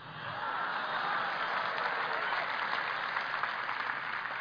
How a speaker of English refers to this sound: And everybody, just like here, applauded.